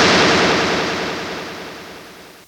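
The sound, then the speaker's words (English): A squirrel gun fires with one loud, harsh blast that hisses and rumbles, then fades slowly over about two and a half seconds. No voices are heard. “Boom! With squirrel gun. So use it. Okay, ready, aim, fire.”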